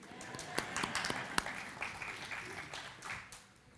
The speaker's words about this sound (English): And I thank you for whoever applauded back there.